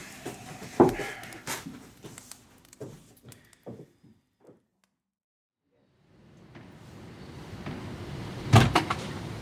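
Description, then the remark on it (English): A door is handled and opened for a visitor on a cold morning with a series of clicks and knocks, then a brief hush before outside ambience swells in and a heavy thud lands near the end. “Someone at the door.”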